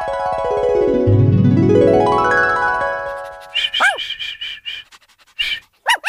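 A sliding, springy tone rises and falls, then two puppies in a box pant in quick bursts broken by small high-pitched squeaks and yips, ending in a couple of short sharp yelps.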